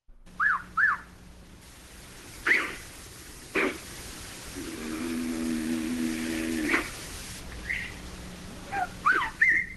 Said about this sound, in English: So part of that sounded like birds, then it sounded like a gorilla, and then of course we hear, I don't know if that was you or one of your companions there who was trying to engage with it.